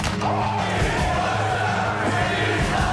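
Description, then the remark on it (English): A crowd lets out a loud, continuous Ric Flair-style wrestling "woo" chant with cheering and yelling on the Dean Blundell and Company show, Sportsnet 590 The Fan, Toronto. It stays at a steady level for about three seconds, with no pauses and no clear separate claps. “Hey, give me 2 claps and a Ric Flair.”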